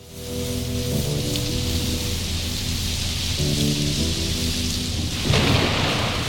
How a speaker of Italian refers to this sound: volevo alzare la base musicale, partono i tuoni con …